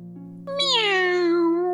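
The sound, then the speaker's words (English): A person imitates a cat with a single drawn-out meow that rises then slowly falls, fairly loud, over a steady low background hum. “Oh my goodness, you're a human. I thought you were a kitty cat. Your meow is so good.”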